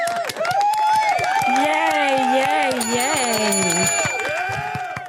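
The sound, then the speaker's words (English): A crowd cheers and applauds to welcome back a returning guest, steadily for about five seconds, with sharp claps scattered throughout, loud wavering whoops and whistles above them, and the noise fading slightly at the end. “That was a crowd of people.”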